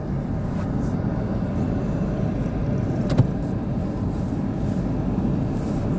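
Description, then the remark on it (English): A car drives steadily along in traffic, its engine and tire rumble forming a continuous low roar from start to finish, with one brief tick partway through and no voices. “I got this dude behind me driving like the same way.”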